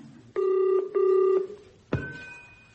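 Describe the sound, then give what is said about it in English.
A phone line rings at the other end: two steady, buzzing ring bursts in quick succession, then a sharp click as the call connects, followed by a faint sustained tone. “Oh, great, it's ringing.”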